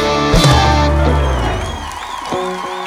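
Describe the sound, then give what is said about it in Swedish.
An audience claps and cheers loudly, while a guitarist plucks a few stray guitar tones that ring through the applause. “Det var onödigt av han att spela på gitarren på det där sättet i själva applåd.”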